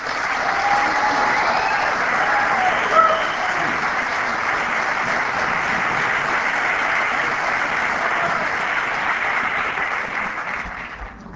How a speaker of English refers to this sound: Thank you. That was so nice. Sometimes it gets embarrassing when the applause are longer before the talk than after.